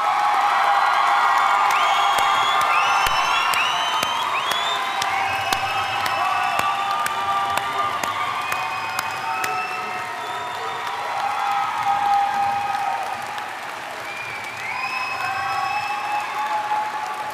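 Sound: cheering and applause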